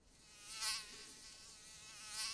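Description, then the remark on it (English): A fly buzzes, its whine swelling and fading twice as it circles and then drifts away, alone with no talking. “You hear me, you buzzing cunt? Fuck off and leave me alone.”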